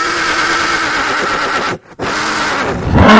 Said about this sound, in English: Horse whinnies.